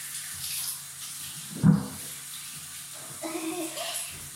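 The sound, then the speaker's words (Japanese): Shower water runs steadily throughout in a bathroom, a broad hissing spray with a brief dull knock partway through and a slight shift in the splashing tone toward the end. “引き続きシャワーを当てます”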